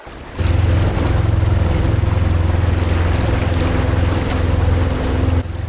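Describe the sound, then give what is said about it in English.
A loud, steady boat engine drones on the water of the Pearl Estuary, a busy shipping channel in China, a deep rumbling hum with a constant tonal whine, running continuously with no voices. “The Pearl Estuary has become one of the busiest shipping channels in China, and the dolphins are constantly bombarded with sound.”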